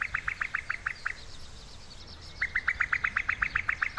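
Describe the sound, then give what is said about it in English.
A female cuckoo's bubbling call: a quick run of bright, repeated notes, a pause, then a longer and slightly louder burst, clear against a quiet background. “Recent studies have revealed that while potential host birds such as reed warblers and meadow pipits completely ignore the song of the male cuckoo, they simply don't register it as a threat, they react sharply to the sound made by a female.”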